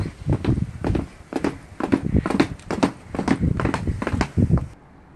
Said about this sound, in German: Und noch etwas, zuerst nur undeutlich, doch dann immer lauter. Das Galoppieren eines Pferdes.